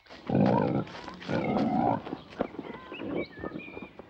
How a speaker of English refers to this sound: Inside the second bus, a pig munches at a stack of hay.